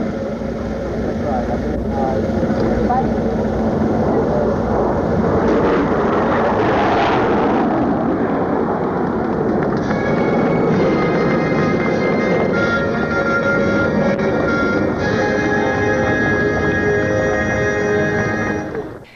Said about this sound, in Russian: Под конец торжественной церемонии к восторгу собравшихся 4 истребителя в парадном строю совершили демонстрационный полет над мемориалом.